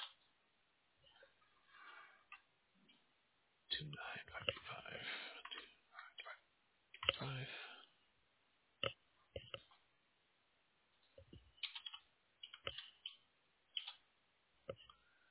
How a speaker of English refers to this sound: I'm just typing along here. Don't mind me. I'm just filling out my side.